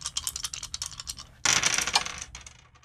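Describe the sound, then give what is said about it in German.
Dice rattle in a cup with rapid clicking for over a second, then tumble out loudly onto a hard surface, clattering and settling quickly, clear and with no voices, as a player rolls the dice again in a game. “Ich würfel jetzt einfach nochmal, obwohl ich denke, so 4 Fünfen sein zu lassen.”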